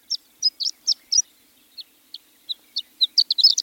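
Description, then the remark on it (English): A horned lark sings alone: a string of thin, high tinkling chirps, spaced out at first, then speeding into a quick jumbled flourish at the end, clear. “However, programs that replenish grasslands and set aside croplands can be a boon to this exquisite bird.”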